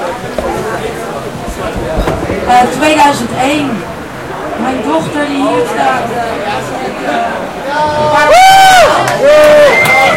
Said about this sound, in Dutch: Yes, nog een keer een keihard applaus.